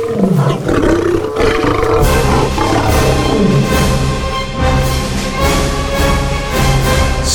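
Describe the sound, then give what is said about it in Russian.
A lion roars furiously, a loud, sustained, rumbling growl that swells and rolls on without pause, thick with low throaty vibration and no voices alongside it. “Увидев, что он оказался в ловушке, зверь яростно зарычал.”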